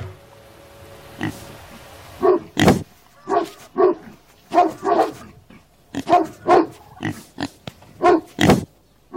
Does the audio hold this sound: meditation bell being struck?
no